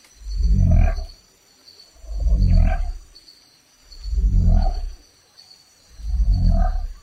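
A frog that can push its own bones through its skin calls four times at a slow, steady pace, each call a loud, deep, rumbling croak lasting about a second, with no voices.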